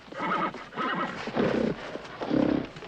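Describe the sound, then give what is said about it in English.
A horse, Sweepstakes, whinnies loudly in several shrill, quavering bursts while hooves clop on the ground beneath the calls, jerking against his lead as he follows his handler. “Watching the horse jerk against his lead, Justin moves toward the squire and the New Yorkers.”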